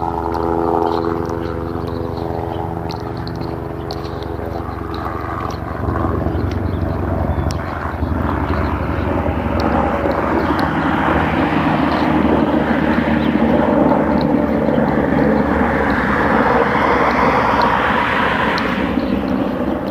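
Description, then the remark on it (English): An air ambulance helicopter passes overhead, not in any particular hurry. Its rotor thumps steadily as the engine roar swells and fills the air, loud and continuous for the whole stretch, with no voices. “Air Life Chopper. He didn't seem to be in any particular hurry.”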